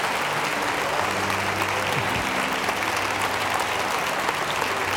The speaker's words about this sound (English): Let's give Sister Gloria a hand clap.